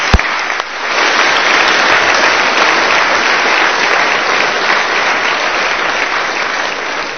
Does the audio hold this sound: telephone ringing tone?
no